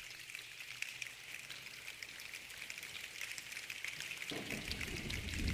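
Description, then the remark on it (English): A choir makes rain sounds with hand motions during a song performance, a dense hissing patter like steady rainfall that swells near the end into a fuller, heavier downpour with a low rumble. “And we did the hand motions and the sounds of rain.”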